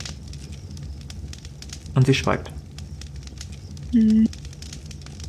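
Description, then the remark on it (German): Steady crackling and sizzling from meat cooking over an open fire runs throughout, dense with small pops, while a voice briefly speaks near the middle and a short low hum sounds near the end. “Und sie guckt auf das Fleisch, was über dem Feuer brutzelt.”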